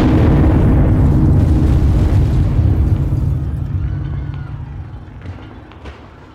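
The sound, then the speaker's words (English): A horse-drawn cart loaded with dynamite explodes in the middle of the street in front of the U.S. Assay office at 12 o'clock, after the Trinity Church bells finish chiming: a loud, deep, roaring blast whose heavy low rumble holds for about three seconds, then slowly fades away with scattered crackles and debris. “£100 of dynamite erupted in the middle of the street.”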